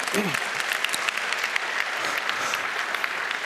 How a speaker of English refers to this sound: Bunny Huang, who builds open hardware, he is a hero. When, you can applaud that if you wish.